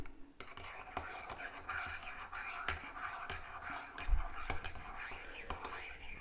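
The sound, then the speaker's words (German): A spoon stirs coffee in a cup, its soft clinks against the ceramic recurring at an uneven rhythm over a low, hissing, whisper-like rustle. “Ja, dann rühre noch mal.”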